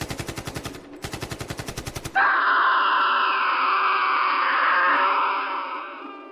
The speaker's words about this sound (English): As I ran, I heard the sounds of gunfire, shortly followed by more screaming.